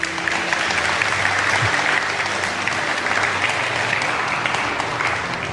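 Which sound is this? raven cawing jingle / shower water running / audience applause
audience applause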